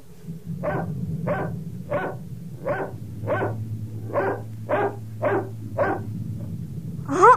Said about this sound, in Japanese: 犬がやってきたわ。